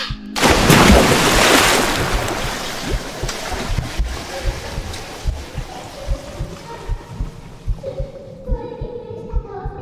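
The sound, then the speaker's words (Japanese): A loud splash of someone jumping into water with full force, quickly giving way to muffled underwater rumbling, soft bubbling pulses and a low, steady hum. “さ、ほら、せーので飛び込むよ。どうせなら思いっきり。”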